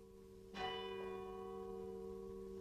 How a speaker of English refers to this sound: This is the last hour of 1959. Dark, and the clouds are moving low overhead. A light rain is falling, and in one of the outlying parishes, the bell is ringing for midnight mass.